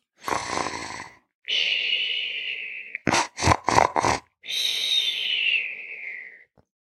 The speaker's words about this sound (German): Höre ich da ein Schnarchen?